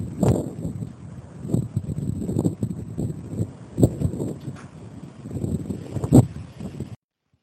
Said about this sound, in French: Ici, au point le plus à l'est du continent américain, il fait un vent à décorner les bœufs. Ici, c'est Saint John's, petite ville portuaire de l'île de Terre-Neuve. C'est ma maison depuis maintenant 1 an et demi. Le vent fait partie de mon quotidien.